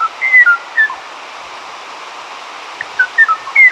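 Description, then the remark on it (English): Clear, whistled bird notes in two short bursts separated by a quiet pause, sung by a single Kauai o'o, a bird of Kauai's high dense forest last heard in 1987, over a steady hiss of forest background noise; an archival recording from the Macaulay Library at the Cornell Lab of Ornithology. “The tranquil song of the Kauai o'o graced the high-dense forest of Kauai until 1987, when it was heard no more.”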